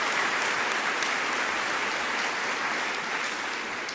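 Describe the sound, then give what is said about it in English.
Sustained applause from an audience at a Catholic university for a Catholic speaker praising his wife for becoming a homemaker, a dense, steady crackle of many hands clapping at an even loudness throughout, with no voices standing out. “I'm playing the applause because I want you to hear what the audience to whom he's speaking thinks of his comments.”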